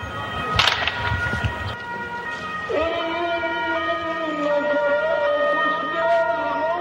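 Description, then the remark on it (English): A few sharp gunshot cracks ring out early in Fallujah, Iraq, then a steady ambulance siren wails continuously as the ambulance rushes to the scene where an American tank burns on the main road to Fallujah, its pitch wavering slightly. “Gunfire, an ambulance rushes to the scene as an American tank burns on the main road to Fallujah.”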